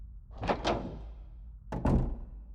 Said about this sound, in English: While I was finishing up and getting ready to wash my hands, I heard the back door open.